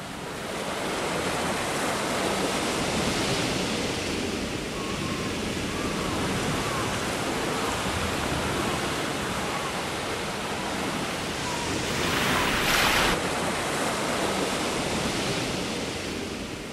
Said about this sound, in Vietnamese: Nhưng đến một vùng biển gọi là Indangsu, lập tức có con sóng dữ đập vào mạn tàu, tưởng chừng phá tan nó ra từng mảnh.